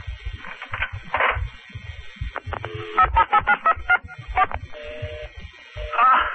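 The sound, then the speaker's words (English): A telephone number being dialed to call the phone company: a quick run of about eight to ten touch-tone beeps in an uneven rhythm, fairly loud, preceded by handling clatter and followed by a few more tones. “Where's that phone? I'm going to call the phone company right away.”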